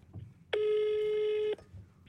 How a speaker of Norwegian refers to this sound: Det er ikke NRK, ring til Ulrikke. Jeg ringer til Ulrikke, og jeg gleder meg. Da kjører vi.